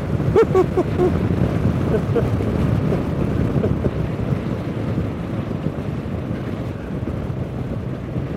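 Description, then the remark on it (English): Loud, steady rush of wind buffeting the microphone while travelling at 70 miles an hour up in moorland, a dense low roar that never lets up, with some brief tonal flickers early on before settling into constant blustery noise. “We're up to 70 miles an hour now. Listen, it's a bit like being perched on the roof of a car.”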